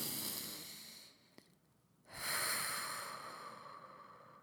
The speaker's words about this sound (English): some of the most effective and free things that you can do is by making sure you take 5-6 deep breaths before you have a meal. So breathing in through your nose if you can.